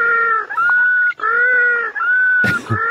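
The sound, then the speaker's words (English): A penguin calls in a run of long, loud, nasal braying notes with brief gaps, the tone wavering slightly, ending in a harsher, broken burst. No one speaks. “Jesse, the next penguin.”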